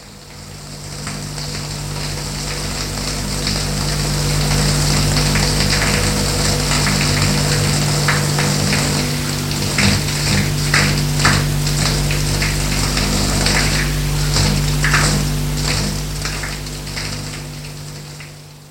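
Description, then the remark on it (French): A shower runs steadily in a bathroom, a broad continuous hiss of falling water with irregular splashes and spatters as the spray hits something, fairly loud, with no voices, as a woman showers a little boy. “Lui enlève son pyjama et le douche.”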